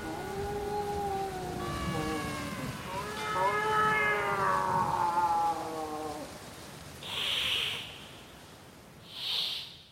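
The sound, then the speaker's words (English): A cat lets out long, drawn-out meows with wavering, sliding pitch, clear, followed by two short breathy bursts of noise. “That was a cat there at the end.”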